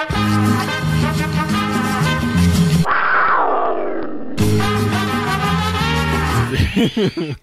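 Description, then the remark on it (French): A terracotta clay noisemaker lets out a loud, raspy roar imitating a Mexican cougar, a sustained harsh rumble with a sliding, downward-sweeping growl in the middle, continuing for several seconds without talk. “Mais l'accumulation de toutes ces affaires-là, c'est comme j'ai un truc qui fait un bruit de cougar mexicain.”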